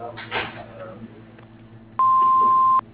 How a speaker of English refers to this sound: Leave a message at the beep and I'll get back to you.